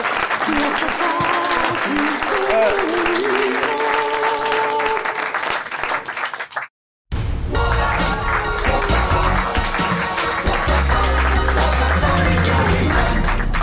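A crowd applauds steadily for several seconds, a dense wash of clapping that stops abruptly in a brief silence before other loud, busier sounds take over.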